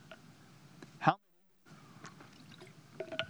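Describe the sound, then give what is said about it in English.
Water is poured into a glass, a short gurgling stream with a rising pitch as it fills, preceded by a brief clunk and a moment of silence over faint room noise. “I'm going to walk over here and get some water because I just got a tickle.”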